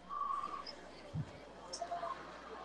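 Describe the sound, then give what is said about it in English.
A referee's short, steady whistle tone sounds near the start at a football game, fairly faint against a hum of crowd-like background noise, followed by a few softer, scattered tones. “The clock is going to start on the whistle as it did.”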